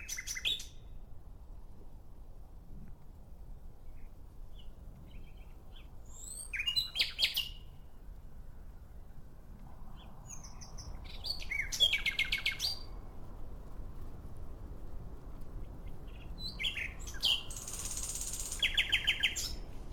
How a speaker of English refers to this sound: You're staying in a village, and when you go out for your evening walk, you are spellbound by the song of a nightingale perched on a branch. As you listen to its chirps and warbling and rising whistle, you wonder, why can't people sing like that?